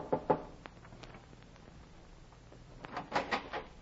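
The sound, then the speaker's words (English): Two sharp knocks on a wooden cabin door aboard a ship docked in a harbor at night, a pause, then a quicker burst of three or four raps, moderately loud with no voices. “I went aboard one and knocked on the cabin door.”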